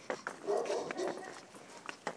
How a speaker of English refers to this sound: Oh, that's a horrible dog. That is the horrible, scary dog that I don't like.